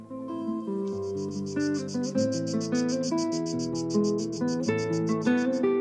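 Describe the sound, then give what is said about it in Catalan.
Cicadas hidden in the trees chirr in a fast, steady pulsing rhythm, loud and shrill, layered over sustained musical chords and shifting melodic tones, with no one speaking. “Les cigales contradiuen aquest silenci en la seva estridència oculta i arbòria, com si els arbres vociferassin una salmòdia ignera, ignífera i vibràtil, perquè al cap i a la fi les cigales rebenten líricament.”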